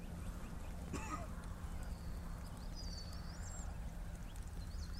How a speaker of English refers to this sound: He made birds that could whistle. It's pretty. It's a pretty whistle. It's not a nasty whistle.